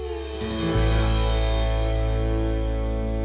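A song draws to a close on a sustained, fuzzy, effects-laden chord that swells after a brief lead-in and then rings steadily at full volume, with no voices.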